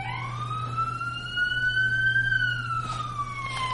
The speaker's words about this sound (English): There's a run on the bank? Is that what the... is that what the alarm's for?